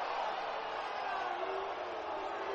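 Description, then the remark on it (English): A large crowd at SRP Park boos a strike call on a strike-him-out, throw-him-out double play in a baseball game, a loud, steady wash of massed voices that holds unbroken for the whole stretch, with no single voice standing out. “Crowd can't stand the call, but it's a strike him out, throw him out, double play.”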